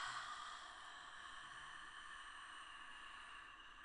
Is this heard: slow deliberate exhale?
yes